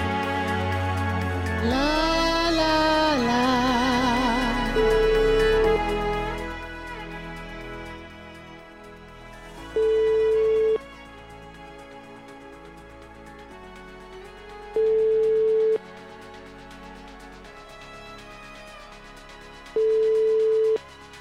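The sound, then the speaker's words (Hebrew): An outgoing phone call from a radio studio to a man who landed a few hours earlier rings unanswered: a short musical jingle, then a steady tone beeping four times at even intervals of about five seconds, with nobody picking up. “האמת שאפשר להבין, אם הוא לא עונה לנו אפשר להבין, הוא רק נחת לפני כמה שעות, לדעתי הג'טלג עוד חושב שהוא נמצא בצד השני של העולם.”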